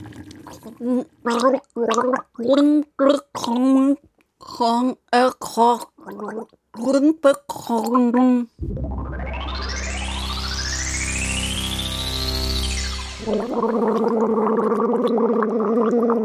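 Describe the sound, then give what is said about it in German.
A voice talks in short bursts, then gives way to a long, steady gargle of water with a tone that rises over several seconds before turning into a rougher, bubbling gurgle, garbling German sayings about wind. “Ihr müsst nur genau hinhören, dann ist alles, haben wir ziemlich verblubbert und vergurgelt.”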